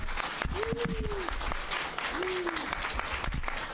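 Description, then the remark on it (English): Steady applause from an audience, a dense wash of many hands clapping at once, with a faint voice briefly rising above it twice. “More claps than booze.”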